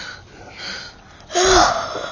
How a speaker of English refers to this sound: Making loud, funny sounds into my microphones, huh? That's your favorite game? And breathing on it!